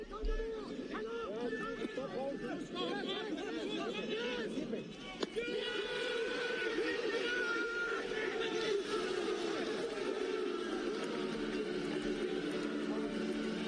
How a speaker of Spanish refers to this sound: Se oye el griterío de los jugadores, el griterío de algunos aficionados en las pantallas y también la música del estadio.